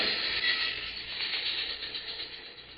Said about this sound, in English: Now, lie low till the train goes past.